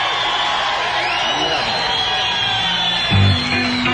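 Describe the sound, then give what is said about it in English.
A lively crowd at an evening live music performance cheers and whoops continuously, a dense wash of shouts and yells with rising whistles, staying loud throughout and swelling briefly near the end. “We got a good crowd tonight. They're all lively and worked up.”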